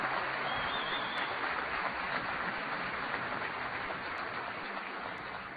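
Sustained audience applause for a team, a dense, steady wash of many hands clapping at an even loudness for several seconds, with no one speaking over it.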